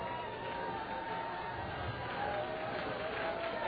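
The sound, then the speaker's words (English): Someone runs down a church aisle, footfalls blurred into a steady, dense wash of crowd noise and overlapping voices that holds level throughout. “Here goes somebody running down the aisle.”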